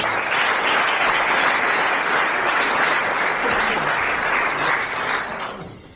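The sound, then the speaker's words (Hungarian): A crowd applauds steadily as a poet is introduced to recite his poems, a dense wash of many hands clapping, holding loud for about five seconds before tapering off at the end. “taps!”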